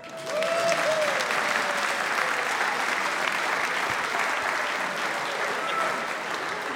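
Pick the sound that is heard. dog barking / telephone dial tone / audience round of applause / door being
audience round of applause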